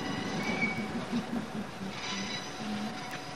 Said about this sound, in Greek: καθώς οι πόρτες έκλεισαν και το τρένο ξεκίνησε πάλι.